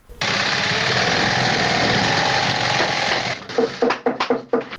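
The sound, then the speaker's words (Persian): A loud, steady mechanical whir of shoe-sewing machines fills a shoe factory in Kabul, Afghanistan, as workers make shoes. It then gives way to a quick series of about six sharp hammer blows as the workers hammer. “یکی از کارخانه های تولید بود در شهر کابل که کارگرانان با دلسردی تمام و نامید از یک آینده روشن چکش می زنند و چرخ ماشین های بودوزی را به صدا در می آورند.”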